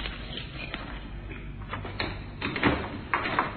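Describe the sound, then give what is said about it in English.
Rattling and clicking of a key at a desk lock, followed by a wooden desk drawer scraping and sliding open, heard alone over a muffled, low-fidelity background. “In that desk, Inspector. Here, I have the keys.”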